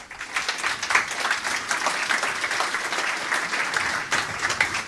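A crowd applauds steadily, dense overlapping claps forming a bright, even wash of sound for the full five seconds with no voices on top.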